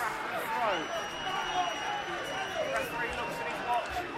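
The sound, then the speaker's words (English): Boston fans in a stadium send up long, shrill, sustained whistles over a constant roar of chanting and shouting in stoppage time of a National League North football match against Brackley, the whistling steady and piercing throughout as they demand the final whistle. “You can hear the whistles from the Boston end. They want this done.”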